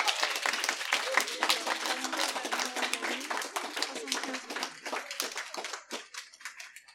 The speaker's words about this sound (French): Applaudissez-les, quand même.